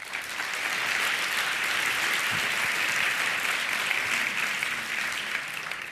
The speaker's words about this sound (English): But please give them a warm applause.